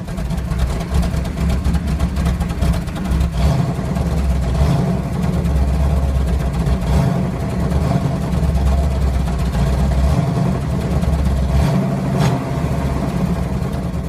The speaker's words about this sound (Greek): Ένα Transam 685 άλογα με supercharger.